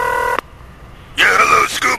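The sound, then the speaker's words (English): A single steady telephone keypad tone sounds clearly for a moment as a prank phone call is dialed, then cuts to a brief quiet gap before a voice starts talking, thin and narrow like it's coming over a phone line. “Prank phone calls.”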